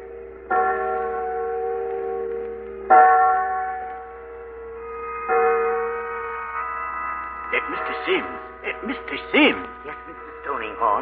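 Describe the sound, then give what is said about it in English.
Church bells ring out on a Sunday in a slow, resonant sequence of three or four strikes, each tolling tone sustaining with rich overtones, followed by a faster cluster of overlapping chimes near the end. “There go church bells.”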